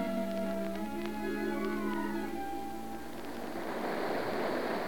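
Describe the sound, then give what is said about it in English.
Waves wash and slosh around a small sailing boat carrying 60 men and women in the rock-bound Menai Straits, in driving rain mixed with sleet, a continuous watery rush that grows fuller midway through, with faint sustained tones lingering underneath at first. “The little boat bobs about on the water at the mercy of the elements.”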